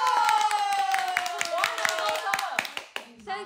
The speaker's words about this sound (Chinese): 对，嘉义华商，就是 华 南 高 商， 拍手，拍手。